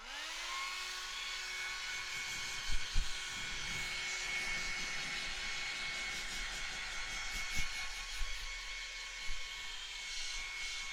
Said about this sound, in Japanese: これが普通のドライヤーっぽく使えばいいんだよね。